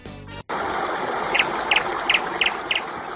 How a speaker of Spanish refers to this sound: vamos a escuchar al pajarico.